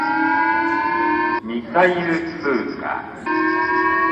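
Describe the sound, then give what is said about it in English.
A loud, steady electronic civil defense siren in Japan drones for over a second, breaks off while a voice makes an announcement, then sounds again at the same constant pitch, warning residents in August 2017 to take shelter from a passing North Korean intercontinental ballistic missile. “Back in August of 2017, residents woke up to an ominous siren, warning people to take shelter from a passing North Korean intercontinental ballistic missile.”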